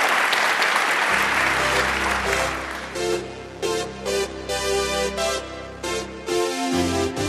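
A studio audience bursts into loud, sustained applause that gradually thins as an upbeat musical sting comes in and carries over the fading clapping.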